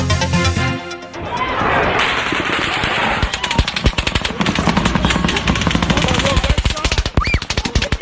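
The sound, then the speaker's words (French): A brief musical jingle gives way to long, rapid bursts of automatic gunfire fired into a crowd in Las Vegas, a sharp rattling volley that keeps going over a background of noisy commotion and indistinct voices. “C'était les coups de feu tirés sur la foule à Las Vegas, plusieurs dizaines de morts.”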